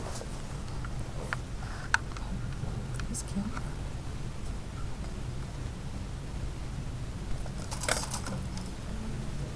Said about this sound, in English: He turns through the pages forward and backward. It's pretty fun turning pages.